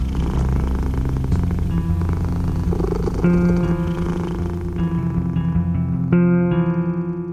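cat purring

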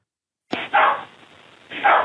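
dog barking

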